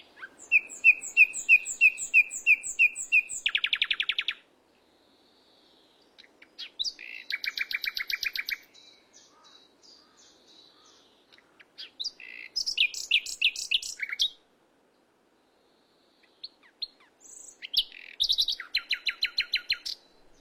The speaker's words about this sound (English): because it is the most beautiful bird song. But we've lost half of our nightingales as breeding birds here in the UK. So it's a song that's disappearing. And it's just the most wonderful sound.